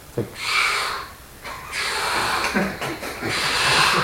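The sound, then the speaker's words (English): A person imitates the heavy, labored breathing people do when in pain, pushing out a series of loud, hissing huffs in a steady rhythm, forceful, almost like a chugging train. “Sometimes, in the presence of pain, you'll hear people breathing very hard.”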